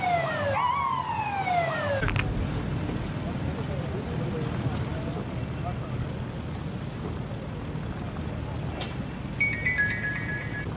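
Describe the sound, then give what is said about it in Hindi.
A loud police siren from a convoy of passing government ministers, with the road closed by police, wails in sweeping rising and falling tones for a couple of seconds, then gives way to a steady roar of traffic, with a short electronic tone near the end. “माजरत मेरे भाई, यहाँ तो पुलिस ने रास्ता बंद कर रखा है, हुकूमती वजीर वगैरह गुजर रहे हैं, इसलिए प्रोटोकॉल लगा है।”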